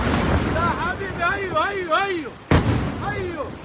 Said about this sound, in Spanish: Cuando estás en el búnker más cercano y empiezan las explosiones, tú cruzas los dedos para que la cúpula de hierro haga el trabajo.